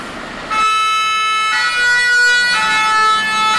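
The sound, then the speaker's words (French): A fire truck siren starts up loud as the truck departs on a call, its two-tone wail alternating in steady cycles over the rumble of the moving vehicle. No one speaks. “Le moment où le camion il part, là, il y a 8 minutes.”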